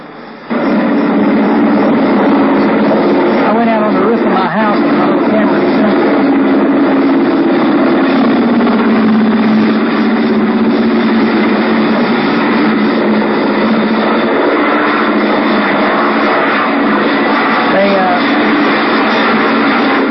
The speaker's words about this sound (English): about 30 minutes ago, we had an overflight of some pretty big helicopters, and I managed to get some film of it.